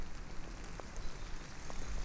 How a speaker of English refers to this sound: But for now, the rains really want me to just push on through. I don't know if you can hear that.